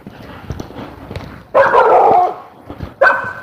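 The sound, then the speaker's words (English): Two loud dog barks ring out, one long drawn-out bark followed by a shorter one, over a low background murmur. “We have dogs.”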